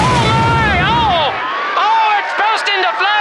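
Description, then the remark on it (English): A deep, rumbling explosion roars for over a second as an airship, held by ropes dropped from its nose to men on the landing field, bursts into flames and falls toward the mooring pads, beneath an excited, high-pitched voice shouting, which carries on alone after the boom fades. “It's burst into flames!”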